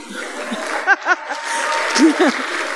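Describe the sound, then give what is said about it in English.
A crowd claps steadily in a dense, continuous patter, with a few rising whoops and shouted cheers breaking through the applause. “Clap for the ants.”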